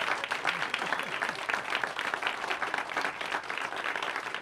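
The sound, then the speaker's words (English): An audience at a band concert breaks into steady applause for guest conductor Ron Coberly, longtime band director at New London Junior Senior High School, dense overlapping claps forming a continuous crackling wash that holds at an even, fairly loud level throughout. “A big round of applause, if we can, for Ron Coberly.”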